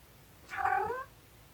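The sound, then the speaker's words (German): A single pet cat meows once, a clear, moderately loud call lasting about half a second, with no talking. “Meine Katze kommt gerade dazu.”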